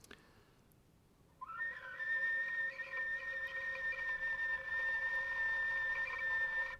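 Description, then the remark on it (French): After a quiet second, a sustained, steady harmonic note played on an instrument enters and holds for several seconds, its pitch wavering slightly with a gentle vibrato, fairly loud, with no one speaking. “Par contre, on pourrait sortir une note précise.”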